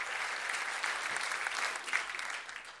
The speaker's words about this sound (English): Thank you, singers, musicians. Haven't you been blessed tonight, folks? Come on, let's give them all a round of applause.